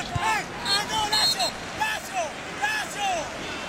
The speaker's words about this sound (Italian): Non so chi è che ha fatto questi urlacci